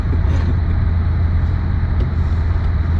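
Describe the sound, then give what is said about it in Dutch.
A fast car's engine rumbles loudly and steadily from inside the vehicle as the driver gives it gas, a dense low drone with road noise layered over it. No one speaks. “Als je op gas geeft, dan vliegt hij weg.”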